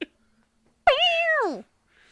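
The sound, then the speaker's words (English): A single loud cat meow, rising sharply then sliding down in pitch, lasting under a second before falling silent. It is an abrupt, startled cry from a female cat that is startled but not hurt. “You woke up, Mildred. This poor cat.”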